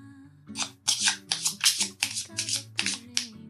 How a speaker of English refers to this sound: Okay, so let's shuffle these cards and see what we need to affirm today.